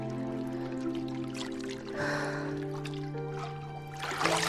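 Bathwater sloshes and trickles as a head rises out of it, with a soft splash midway and another stir of water at the end, over a steady, sustained musical drone.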